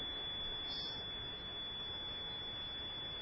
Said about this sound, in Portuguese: uma coisa está apitando aí.